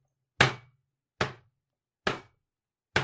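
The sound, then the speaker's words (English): A head bangs against a wooden table four times in a slow, steady rhythm, each blow a loud, dull thud with a sharp knock on top that quickly dies away, with silence between. “This is me banging my head on the table.”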